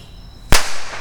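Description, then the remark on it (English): A single sharp, loud bang from a bottle rocket fired out of a rocket tube outdoors at night cracks out, followed by a hissing, crackling tail that fades slowly over a faint high whine in the background. “I, of course, blame all the neighborhood kids for all this firework noise we're hearing out here tonight.”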